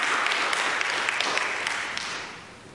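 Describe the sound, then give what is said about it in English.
A church audience breaks into sustained applause for its pastor, dense overlapping claps at steady volume that gradually taper off toward the end. “You should applaud.”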